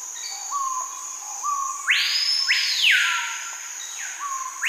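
A tropical blackbird, a voice long regarded as the loudest bird, sings loud, rich whistled phrases: a few short clear notes, then two bold sweeping calls that rise and swoop, over a steady high insect-like tone.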